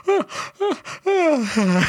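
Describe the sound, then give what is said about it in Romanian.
A loud yawn that starts in stuttering bursts: two short voiced catches with falling pitch, then a long, drawn-out yawn sliding downward and trailing off breathily. No talking. “ăsta e un căscatul unui bâlbâit”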